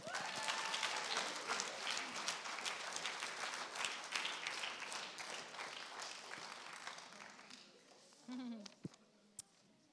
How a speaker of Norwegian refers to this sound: Vi må ge dig en applaus.